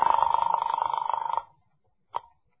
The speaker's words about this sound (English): Then I picked up the phone and dialed the office.